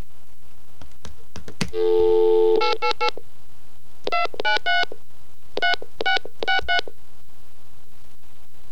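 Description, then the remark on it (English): A toll-free 888 phone number taken from a payphone information card is punched in with touch tones: a longer tone, then a quick run of beeps, followed by several more short bursts of dialing tones. Clear, with no voices. “So let's give that one a call and see what the hell it is.”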